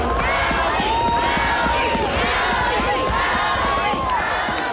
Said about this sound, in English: The crowds went wild as Ali Zirkle pulled onto Front Street in Nome.